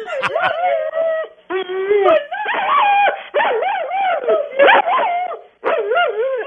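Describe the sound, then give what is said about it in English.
A Rottweiler howls and 'sings' in long, wavering, rising-and-falling tones, broken into several drawn-out phrases with short pauses, loud. “a Dottie Roddy, a Rottweiler”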